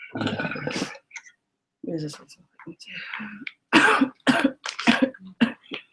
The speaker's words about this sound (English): Just coughing and coughing.